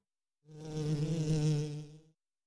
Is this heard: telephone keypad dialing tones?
no